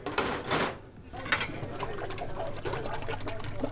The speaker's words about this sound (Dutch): Nou, jij bent wel eigenlijk bezig met een typisch scoutingklusje eigenlijk wel. Hè? Ja, ik ben momenteel even bezig met de afwas, want dat moet ook gebeuren.